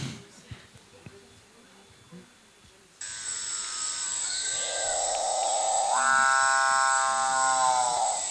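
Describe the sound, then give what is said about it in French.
After about three seconds of quiet background, a bare-necked fruitcrow gives a loud, buzzing, harmonic-rich call that drones on steadily and steps up in pitch partway through. “Alors ça, c'est l'oiseau pour lequel j'ai voulu apprendre à grimper dans les arbres, qui était vraiment un oiseau auquel je tenais particulièrement et que j'ai mis longtemps à photographier.”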